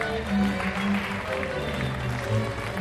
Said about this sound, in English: On ABC Radio Canberra, this is … at the AIS Arena, where there's all this electricity in the air and the crowd is going wild. Not for a sports team or rock band, but rather for the University of Canberra's Class of 2018.